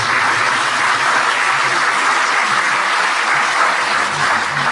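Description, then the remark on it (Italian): A crowd applauds steadily, a dense, even roar of many hands clapping that holds at a constant loud level throughout, with no voices breaking through. “Vorrei fare un applauso di guarita guarigione.”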